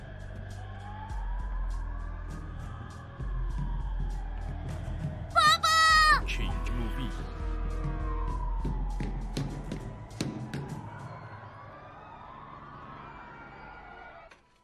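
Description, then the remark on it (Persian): Emergency vehicle sirens wail continuously as emergency services arrive at the scene of a reported explosion at the Odyssey center, their pitch sweeping slowly up and down over a low traffic rumble, while people talk over them and a brief sharp burst cuts in midway. “نیروهای اورژانس در حال رسیدن به محل حادثه هستند، اما گزارشی از مصدومیت و مرگ تا به الان وجود ندارد.”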